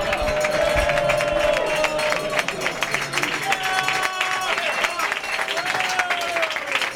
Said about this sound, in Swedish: Och vi sitter på en bar här uppe på bergstappen. Tor, norrmannen Tor Husov som håller på att vinna. Och ja, det är faktiskt, fast det är mycket fransmän och spanjorer här uppe, så är det många som jublar över hans vinst idag.